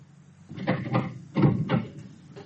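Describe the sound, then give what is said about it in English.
After the bell of a flat gets no answer, someone tries the door: the handle rattles and a latch clicks in two bursts of knocking, scraping noise, then the door is pushed open. Fairly clear, with no one speaking. “There was no answer, and I tried the door.”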